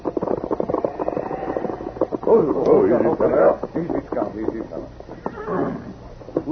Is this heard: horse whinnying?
yes